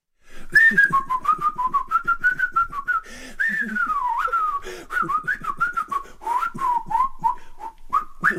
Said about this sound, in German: Ein Mann pfeift. Aber er pfeift nicht einfach so daher.